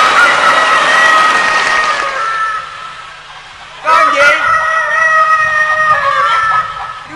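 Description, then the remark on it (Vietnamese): A rooster crows loudly in two long, drawn-out calls separated by a brief pause, with a mother hen and many chicks clucking and chattering in the background. “Bài con gà gái te te ha. Hay da, có gà mẹ và cả gà con nữa, nhiều ơi là nhiều.”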